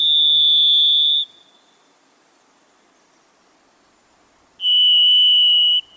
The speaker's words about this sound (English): If you hear the eerie song of the varied thrush, you may be in a moist Pacific Northwest forest, in a quiet and private place.